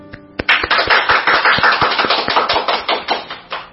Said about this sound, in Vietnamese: Thưa anh chị em và các bạn, chúng ta cùng vỗ một tràng pháo tay để kết thúc năm cũ.